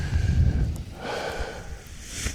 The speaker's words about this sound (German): Hört ihr das Rascheln? Das sind die Paraglider. Und mit diesen raschelnden Klängen verabschiede ich mich dann heute von euch und an diesem schönen Rhön-Ausflugstag.